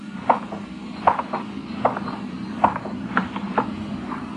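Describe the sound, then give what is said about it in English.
Slow, steady footsteps strike a hard pavement on a dark, deserted street, about seven or eight distinct steps at an even walking pace, each with a slight ringing tail, over a quiet low background hum and no voices. “My footsteps echoed in the quiet street.”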